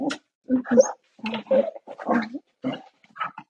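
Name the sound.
dog barking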